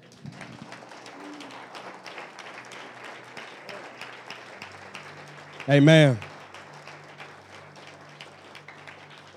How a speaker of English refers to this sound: And you must express your seriousness for the seriousness of God. Praise God. Let's clap.